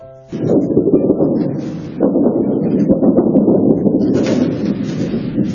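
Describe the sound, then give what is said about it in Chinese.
Loud, sustained thunder sound effect from the stage play Leiyu 2014 (Thunderstorm 2014), made live by visible sound-effects artists using tools, rolls in after a brief quiet start, a deep continuous rumble with a fresh crack swelling again about two seconds in, filling the whole clip with no voices. “很明显，这是雷声，有风声。”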